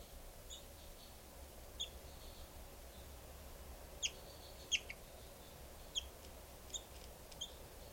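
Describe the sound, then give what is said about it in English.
High, sharp bird calls ring out in brief bursts, some doubled, scattered irregularly over a low steady rumble, with two birds, numbered 395 and 425, calling in turn. No one speaks. “395 and 425 both calling.”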